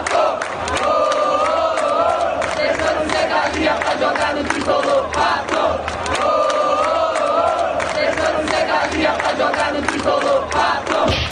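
A large stadium crowd of São Paulo football fans sings a personalized chant in unison honoring the player Pato, loud and continuous, the melody repeating in rhythmic phrases over a dense roar of voices.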